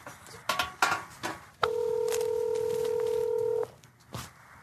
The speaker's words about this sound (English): I'm gonna press dial. Put it on speaker. All right. Let's see what happens.